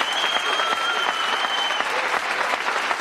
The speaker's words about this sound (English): Well, anyway, I got to thank Michael Andretti and Johnny Rutherford for being on the show. How about a round of applause for the boys here?